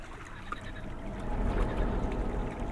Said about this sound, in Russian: Вдруг слева что-то плеснулось. Сергей прислушался, но всплеск не повторился.